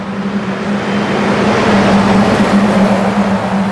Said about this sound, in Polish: Tych okien wychodzących na trasę nie otwieram nigdy. Jedzie kolejna ciężarówka.